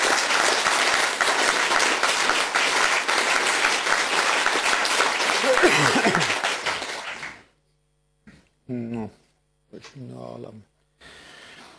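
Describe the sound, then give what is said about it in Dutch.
Sustained applause from a sizeable audience for an alderman fills the first seven seconds, dense and steady, then cuts off and a single voice begins speaking in short bursts. “Mag ik een applaus hebben voor deze wethouder?”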